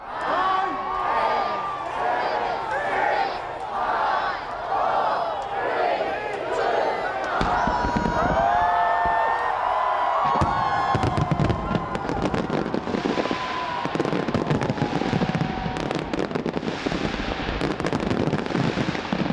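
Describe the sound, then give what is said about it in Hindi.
A large crowd cheers and chatters at New Year celebrations on Sydney Harbour, Australia, then fireworks burst in rapid, overlapping cracks and booms, loud and nearly continuous, with the crowd noise carrying on underneath. “Sydney harbour पर ticket लेकर आतिशबाजी देखने वाली दीर्घा में कोरोना के डर के चलते जगहें खाली दिखी।”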